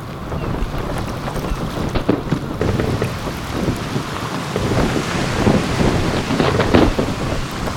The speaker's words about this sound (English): But the Lord sends a great wind into the sea, and there is a mighty tempest, so that the ship threatens to break apart.